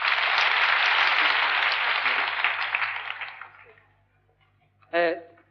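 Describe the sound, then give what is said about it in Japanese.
A crowd applauds the guest singers, four high school students, in a loud, dense wash of clapping that gradually fades out over about four seconds, followed by a brief spoken voice. “どうぞ拍手お願いします。”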